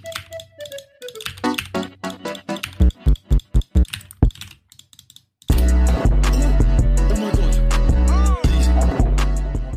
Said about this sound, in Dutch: En dan je hoort zo... Tic, tic, tic, tic, je hoort ze zo allemaal toetscombinaties op een toetsenbord doen.